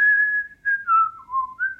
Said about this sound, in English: Can you whistle a tune? If so, please whistle a tune. I'm really bad at whistling. Like, I can whistle, like...